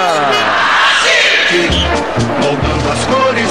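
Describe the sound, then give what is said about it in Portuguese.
A stadium crowd at the Maracanã roars and shouts after Sassá scores a penalty for Botafogo against Flamengo, a loud, continuous wall of cheering with individual voices rising and chanting through it for a few seconds. “Sassá, galera grita, é sassarada neles, eu te amo, Sassá!”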